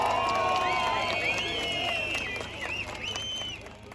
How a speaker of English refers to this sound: came out onto the balcony of the ruling Justice and Development Party headquarters in Ankara, greeted by a crowd of probably a few thousand people who were chanting, who were singing.